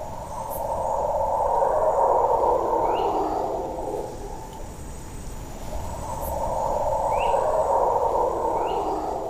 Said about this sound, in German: Das hier sind zum Beispiel Brüllaffen, die aus der Ferne rufen.